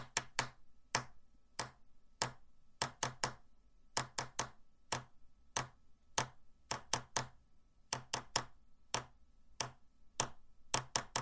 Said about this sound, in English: To some of you, that might sound familiar, and to others, you might wonder, what in the world is going on? Well, for those who don't know Morse code, that was the International Distress Signal, SOS, as many call it.